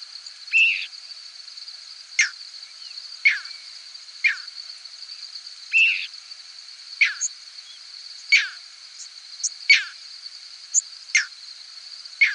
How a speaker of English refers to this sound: This clip is from a six-hour recording of squeaks, whistles, and peeps from thousands of birds passing over a hayfield in central New York State. You'll hear a few crickets, too.